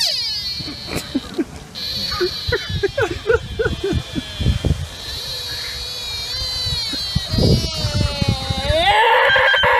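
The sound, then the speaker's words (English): Spotted deer calling: shrill, high-pitched wavering cries that repeat and stretch out, with a final rising, bending call, over scattered low thumps and rustling. “The sound of the spotted deer.”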